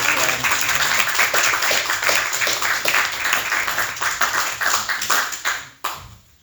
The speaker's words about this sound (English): All right, let's give our speakers a round of applause.